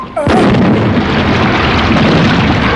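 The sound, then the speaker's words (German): A cannon fires once with a sudden, loud blast, then a heavy, roaring rumble carries on without letup for over two seconds. “Ist das Geschütz bereit? Seit Tagen, Professor, seit Tagen! Schnell, schnell, bevor es zu spät... Jetzt pass auf, Satan, jetzt gibt es Zunder! Feuer, Mr. Land!”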